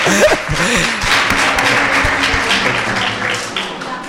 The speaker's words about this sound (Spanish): Un fuerte aplauso para la UMH. Es broma.